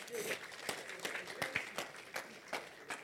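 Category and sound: crowd, audience clapping hands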